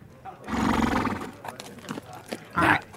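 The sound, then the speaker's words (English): A horse lets out a loud, drawn-out whinny lasting about a second, followed by a few softer huffs and a brief second neigh near the end. “My other horse, Chode, is hanging out outside.”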